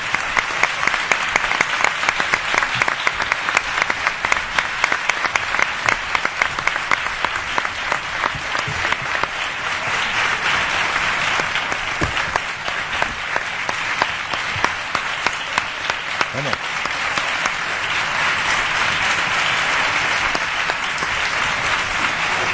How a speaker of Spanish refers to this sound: Bueno, exalcalde de la ciudad, y además el señor Zoido fue el que, bajo su... por favor, vamos a pedirle, por favor, que se acerque. ¡Un aplauso!